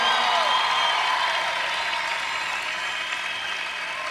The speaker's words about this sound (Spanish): El aplauso para el Señor que se escuche. Oye, ese aplauso para el Rey de la Misericordia, el Rey del Amor.